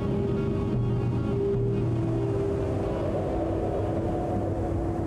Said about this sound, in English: Four tugboats pull a huge cargo ship into the deepwater port. There are no other boats and no cargo is visible on the deck of the ship.